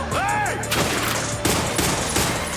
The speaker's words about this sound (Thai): Dead Witch ยิงกันตูมตามเข้าครองอันดับ3ครับ